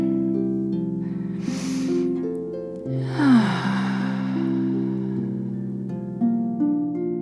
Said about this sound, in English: Breathing in and out.